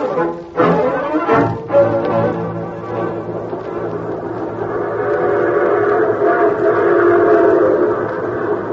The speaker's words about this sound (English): The train that carried Gideon Jackson northward raced into a new world.